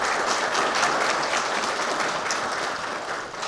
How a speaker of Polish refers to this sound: Tak, a teraz brawa.